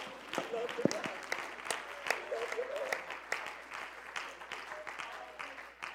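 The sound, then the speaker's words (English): A church audience claps hands in praise to God, a dense, continuous wave of applause, steady and fairly loud throughout, with scattered voices calling out underneath. “Come on, clap your hands to him right now.”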